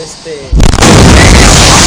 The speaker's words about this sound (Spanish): Una explosión descomunal, ¿no?